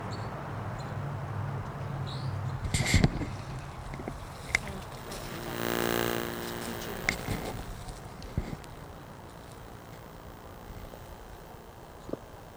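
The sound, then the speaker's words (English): A bird calls close by with one buzzy, harmonic-rich note lasting about two seconds, preceded and followed by scattered sharp clicks and rustles against a quiet background. “Here's the bird. It's close by.”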